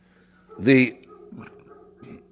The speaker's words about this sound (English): Now the dog is going.